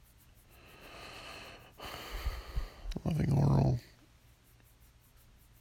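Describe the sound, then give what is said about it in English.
A few short, breathy nasal sniffs from someone with a head cold, followed by a brief voiced, snort-like sound, with a little mumbled speech around them. “Woke up with a bit of a cold. So I apologize, you may hear some sniffs.”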